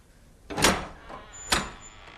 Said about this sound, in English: Her chest heaves up and down as she watches the door latch lifting.